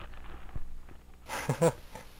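A dog makes a brief cluster of noises, a short breathy burst with a couple of yelpy sounds, after a quiet stretch of faint shuffling. No one speaks.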